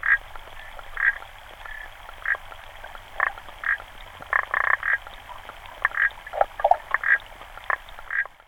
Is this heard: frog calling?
yes